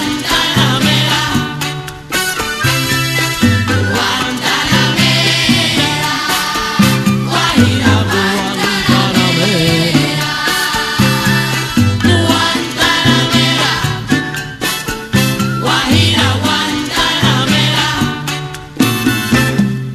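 A lively Cuban guajira song with singing, loud, driven by a steady rhythmic pulse of strummed strings and percussion that plays continuously throughout.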